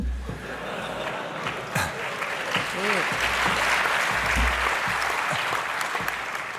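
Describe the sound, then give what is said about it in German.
An applause sound effect: a crowd applauding, a dense steady wash of many hands clapping for several seconds, with a few brief voiced cheers rising through it midway. “Ich hab neulich einen SOA gesehen, das war, yay, du hast jetzt alles Security Incident abgearbeitet, Applaus für dich.”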